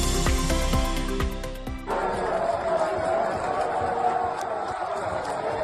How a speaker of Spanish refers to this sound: Es el sonido de una audiencia multitudinaria con el Papa León XIV en el Vaticano. En medio de cientos de personas que vitoreaban y aplaudían a su santidad, Mérida logró hacerse un hueco en la Santa Iglesia.